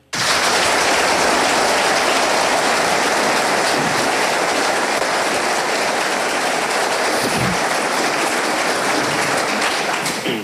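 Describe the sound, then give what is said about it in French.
A large crowd at a debate between the Bernese Pierre-Alain Schneck and the Jurassian Charles Juillard applauds in a dense, steady roar of clapping that stays loud and even for about ten seconds, with no speech over it. “On vient d'entendre hein, les applaudissements.”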